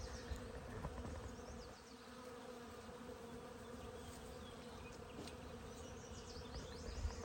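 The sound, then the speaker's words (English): A dense, continuous hum of many bees buzzing together in a flowering tree, steady and enveloping, with occasional individual bees droning past. “I've been standing here being massaged by the vibrations of the bees.”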